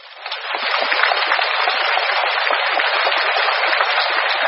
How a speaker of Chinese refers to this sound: 台长说，那是当时的会场鼓掌。